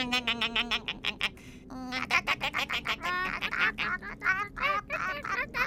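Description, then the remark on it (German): A flock of migrating birds calls overhead in flight, a steady stream of overlapping nasal, honking cries repeating rapidly, with no talking. “Ich muss an die Spitze unseres Vogelschwarms fliegen und den Papa mal ablösen.”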